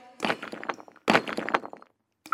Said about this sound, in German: Da, eine Tür geht auf.